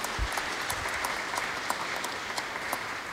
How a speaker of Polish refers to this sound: Wielkie brawa. Witam serdecznie.